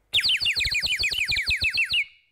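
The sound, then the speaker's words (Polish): A loud water bird whistle, used instead of ringing a bell in the morning, warbles in a rapid burst of about a dozen bright, trilling chirps that slide down in pitch, lasting roughly two seconds with no talking. “może byś coś zmienił z tymi dzwonkami i zamiast dzwonić rano, po prostu zaćwierkał takim ptaszkiem z wodą.”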